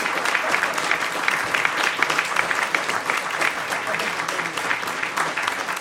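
Steady applause in a studio for a musician, a dense crackle of many hands clapping at an even, sustained loudness for the full length, without a break or fade.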